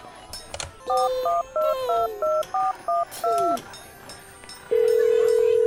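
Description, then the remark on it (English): A rapid run of about eight short telephone keypad tones, each a bright dual-pitch beep, dialing to put Heat Miser on the phone, followed by a steady ringback tone starting near the end, clear with faint background noise. “Could you do me a favor? Like putting Heat Miser on the phone?”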